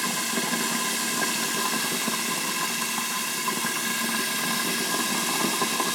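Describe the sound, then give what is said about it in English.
Steady, dense sizzling of food frying in a pan with a lid on, a continuous hissing crackle at an even level, with no one speaking. “It's really frying now, and I put that lid on there.”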